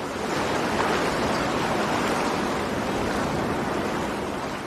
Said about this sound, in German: Jetzt hört man langsam ein bisschen Wasser und man hört vor allem weniger. Ja, genau. Also das war das erste Mal, dass ich nicht im Hintergrund Sirenen, Autos hupen, Menschen schreien.